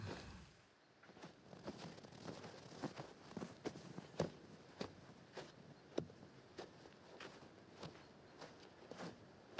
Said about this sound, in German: Ganz langsam. Wir haben keinen Stress. Nur wir und der Schnee in dieser dunklen, weißen Winternacht. Und unsere langsamen Schritte durch den Neuschnee.